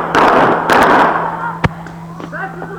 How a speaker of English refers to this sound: Look, he's gonna stand there and then he's gonna shoot the enemy.